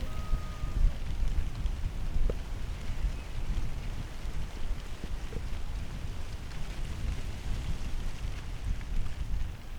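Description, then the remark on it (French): Steady rain falls on a cherry orchard, a dense continuous patter with a low rumbling wash underneath, broken by a few faint brief tones early on and occasional single drips; no one speaks. “J'ai enregistré des cigales et des mouches, le son d'un champ de maïs, d'un champ de cerisier sous la pluie.”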